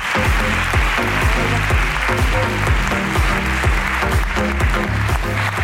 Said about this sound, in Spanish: ¡Aplauso para 21, por favor! Muchas gracias, tío.